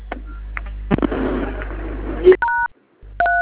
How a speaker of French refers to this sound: Vous composez sur votre téléphone le code dièse 31 dièse. Dièse 31 dièse. Oui, dièse 31 dièse.